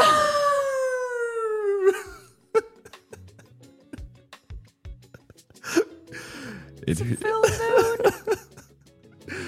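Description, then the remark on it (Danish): A person lets out a loud imitation wolf howl, one long sliding note falling in pitch over about two seconds, followed by choppy bursts of voice and talk. “begyndte at hyle mod munden som en uld. Au!”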